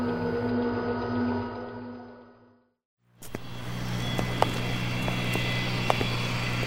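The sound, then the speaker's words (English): A steady company jet engine drone with a humming tonal whine fills the scene, cuts out to near silence for a moment, then returns as a broad, rushing roar with a few faint clicks. “I'm glad we have the company jet available to us.”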